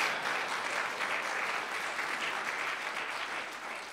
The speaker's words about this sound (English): This is the word of our Lord. Probably deserves a round of applause for that.